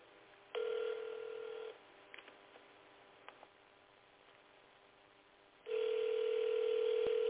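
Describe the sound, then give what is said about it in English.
A steady telephone dial tone sounds for about a second, then a few soft clicks of dialing follow before another loud, sustained tone starts and continues to the end, as a landline is called from a phone. No one speaks. “I'll call you on your landline from my phone.”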